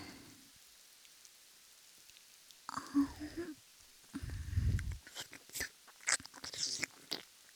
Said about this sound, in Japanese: 雨ですね。